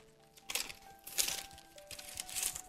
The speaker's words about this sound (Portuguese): Como eu amo do barulho das folhas, né? Folheando-as.